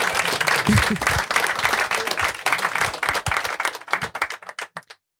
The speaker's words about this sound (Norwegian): Vær så god. Og mer applaus.